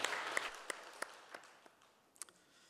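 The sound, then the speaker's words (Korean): An audience applauds, a dense wash of clapping with scattered sharper claps standing out, tapering off over a few seconds until only a few isolated claps remain. “할렐루야, 우리 영광의 박수를 올려드리겠습니다.”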